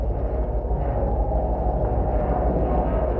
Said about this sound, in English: This is the sound of a bronze window screen outdoors on a cold March day. You can hear the wind, but you also hear this little tinkly-like sound, which is the metal mesh simply rubbing against itself.